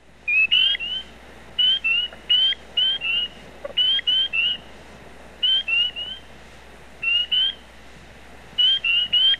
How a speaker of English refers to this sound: he locates surviving populations of three species of tree frogs in the St. Louis area that become sexually active as ice melts in wintry February. He locates and records three species by their calls. Spring peepers peep.